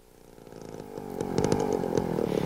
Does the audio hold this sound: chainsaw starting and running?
yes